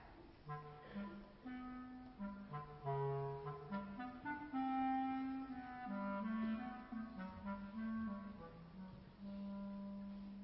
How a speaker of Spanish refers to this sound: Pedro y el Lobo es un cuento sinfónico compuesto por Sergei Prokofiev. El pájaro por la flauta. El pato por el oboe. El gato por el clarinete.